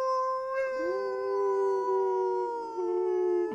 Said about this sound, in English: Is he howling? I don't think they can hear him. Well, you know what that means. If Sparky howls, we all howl.